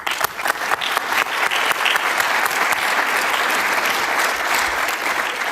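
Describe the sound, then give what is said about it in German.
An audience at the international Phos4G conference claps for the conference helpers, a dense, sustained patter of many hands that swells quickly at the start and holds at a fairly loud, even level for several seconds without any talking. “Ich würde auch gerne ein paar von den Helfern, die super waren dieses Jahr bei dieser Konferenz, und die kriegen jetzt gleich nochmal einen extra Applaus dafür.”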